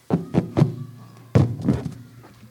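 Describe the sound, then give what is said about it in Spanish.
The door of a small hut on a hilltop is handled and opened by two children, with a series of dull wooden thunks: three quick knocks, a pause, then two heavier thuds, with no voices. “Los dos niños subieron la colina y abrieron intrigados la puerta.”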